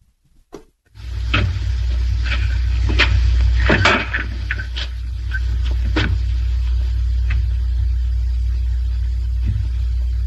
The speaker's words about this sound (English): Here's the scene where the monster comes walking through the door into the lab.